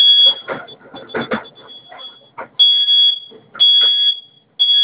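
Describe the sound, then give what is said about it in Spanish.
A home security alarm, set off by holding its two fire buttons together for five seconds, sounds a piercing, high-pitched electronic tone in long, loud bursts separated by short gaps, with rustling, clattering noise mixed in during the first couple of seconds. “Y va a sonar su alarma.”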